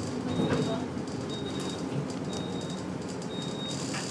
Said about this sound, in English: Anybody know why this bus is making this horrible noise?